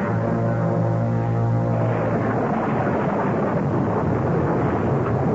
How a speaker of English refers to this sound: I feel terrible dragging you out in the storm. Oh, it just blew up out of nowhere.